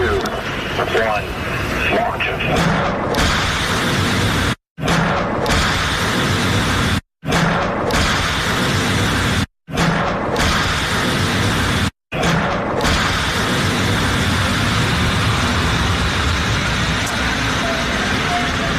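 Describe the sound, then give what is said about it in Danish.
Tomahawk missiles, sent by President Donald Trump, launching and exploding over Syria on a Thursday evening: a loud, continuous roaring rumble with heavy booms and rushing whooshes, broken into several segments by abrupt brief silences. “Og det vi hørte her, det var altså lyden af nogle af de her Tomahawk-missiler, som her torsdag aften er regnet ned over Syrien, afsendt fra præsident Donald Trump.”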